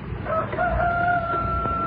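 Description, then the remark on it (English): A rooster crows in one long, drawn-out call, its strained tone holding steady over a noisy outdoor background with a low rumble. No one speaks. “Listen to that rooster crow.”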